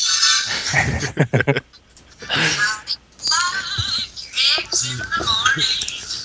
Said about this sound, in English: So... That's one interesting cell phone ring.